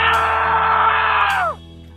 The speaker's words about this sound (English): Oh, okay. Well, we had that loud scream in our in our buffer.